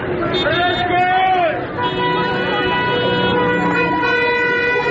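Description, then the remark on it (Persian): A dense chorus of car horns honks continuously in the Narmak area of Tehran, people honking in protest at morality police trying to detain two young women. Many sustained tones overlap at once, loud, like a street full of vehicles sounding off together, with some voices mixed in underneath. “اعتراضشون مردم با بوق دارن نشون میدن.”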